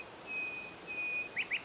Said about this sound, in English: The nightingale has returned.